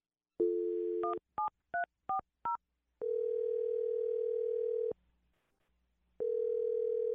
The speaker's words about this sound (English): Well, I'm going to dial his phone number now, okay? Okay. All right, here we go.